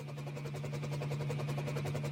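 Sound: helicopter engine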